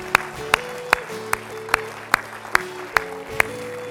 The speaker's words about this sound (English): Can we give the Lord a hand clap of praise for that?